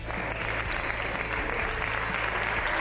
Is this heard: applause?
yes